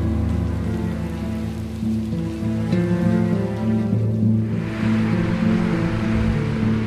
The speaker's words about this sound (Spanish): Probablemente fue después de medianoche cuando comenzó la tormenta. La violenta tormenta que puso fin a todas las tormentas.